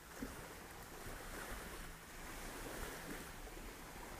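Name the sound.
ocean waves and wind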